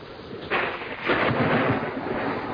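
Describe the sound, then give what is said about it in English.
A deep, rolling rumble of thunder from a lightning storm swells in after a half second and builds into a long, heavy roar that stays loud, with a broad hiss like rain beneath it. “I'll close the curtains, madam, so that the lightning won't bother him.”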